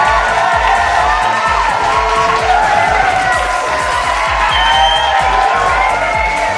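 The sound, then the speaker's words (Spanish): An applause sound effect: loud, dense applause with a crowd cheering and whooping throughout, a steady wash of clapping and shouting voices that stays strong for several seconds. “¡Que suene fuerte ese aplauso para ellos!”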